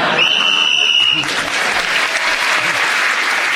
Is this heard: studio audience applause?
yes